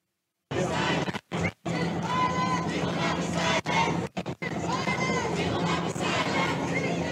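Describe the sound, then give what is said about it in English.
A loud crowd of protesters chants the slogan "speech is violence" in unison, their massed voices surging in rhythmic bursts broken by a few short pauses between phrases. “And then, this is my favorite, the protesters started chanting, speech is violence.”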